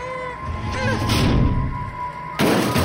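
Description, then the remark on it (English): A heavy wooden desk, shoved from a classroom over the top of the stairs, crashes down to the next landing in a loud, rumbling series of thuds and clatters, then one last hard bang as it lands, with a steady electrical hum underneath. “The crashing was like music as the desk fell to the next landing.”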